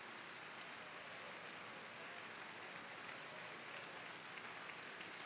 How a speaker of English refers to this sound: And the applause recalls Eric Leinsdorf to center stage here in Orchestra Hall, Chicago.